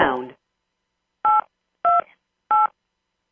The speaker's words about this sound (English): The beeps that you hear are when muting the conference line.